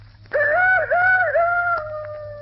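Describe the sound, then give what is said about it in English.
A rooster on a farm crows once, a long, loud cock-a-doodle-doo that starts abruptly, wavers in pitch through the middle and holds a drawn-out tail before fading slightly, with a low steady hum underneath. “Well, there's still room for a couple of alarm clocks with the feathers on them.”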